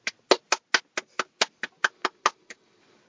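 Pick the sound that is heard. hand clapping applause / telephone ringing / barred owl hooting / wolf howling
hand clapping applause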